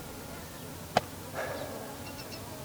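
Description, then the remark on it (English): A male bird's courtship dive toward a female, one of a whole series of dives, at Boyd Deep Canyon Natural History Reserve: a single sharp snap, then a brief buzzy, insect-like whine with faint high chirps trailing off, heard over a steady low background hiss. “That was a male diving to a female. A whole bunch of dives.”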